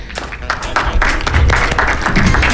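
An audience breaks into steady applause for the winner of a numbered draw, many hands clapping in a dense, crackling wash that holds loud and even for a couple of seconds.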